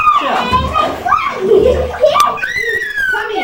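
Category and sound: household object, child splashing water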